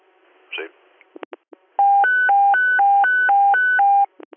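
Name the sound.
fire dispatch paging tones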